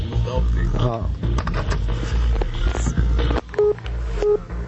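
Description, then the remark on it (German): Two short touch-tone dialing beeps sound near the end, each a brief steady pitch, set against a busy, cluttered background with muffled voices and handling noise throughout. “5, 7, jetzt ist wieder das Telefon.”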